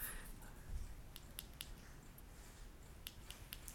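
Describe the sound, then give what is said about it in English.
Small, sharp clicks of an Apple remote button, pressed three times to turn VoiceOver on and off on a TV, come in two quick sets of three, quiet, over a faint low background hum with no talking. “I'm clicking the button 3 times to turn on and off VoiceOver, and I have no idea what I should be hearing at the moment.”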